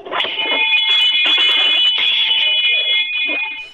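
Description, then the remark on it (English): A restaurant bell at a hot dog restaurant, rung when a customer orders ketchup on a hot dog, rings loudly and continuously for several seconds, a bright, shrill metallic clang with a steady, buzzing quality and no voices over it. “And there is a restaurant where if you order ketchup on your hot dog, we ring the bell and yell, "Blasphemy!"”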